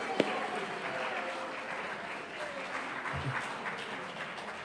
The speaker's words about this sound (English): Right, we'll have a clap for everybody there.